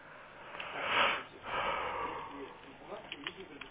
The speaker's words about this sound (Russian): Ну ты зеваешь так.